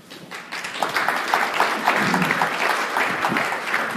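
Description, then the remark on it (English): An audience claps steadily for a speaker taking over a presentation, a dense wash of many hands swelling in the first half-second and then holding at a fairly loud, even level with no talking over it. “You shouldn't be clapping because I made totally bomb it, right?”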